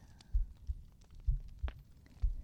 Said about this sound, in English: Your pulse, this heartbeat, it calms me.